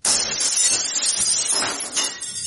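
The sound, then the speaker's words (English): Ragnar's drinking glasses smash and shatter in a loud burst onto mead spilled on the floor of his house, bright tinkling shards crashing and clattering continuously for a couple of seconds, with no voices. “She tipped the barrel over until half of it was on the floor and smashed Ragnar's drinking glasses and smashed them onto the mead.”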